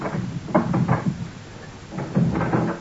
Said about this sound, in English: If this isn't mortal, if we're all ghosts, why is this so locked? Curb your restless spirit. I will open the door for you.